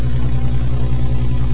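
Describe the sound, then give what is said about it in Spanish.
A car engine runs at a steady idle, a continuous low droning hum with a faint rattle, unchanging throughout, with no voices. “Mi auto, ya.”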